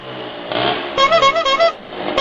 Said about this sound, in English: Loud pipes and fast bikes.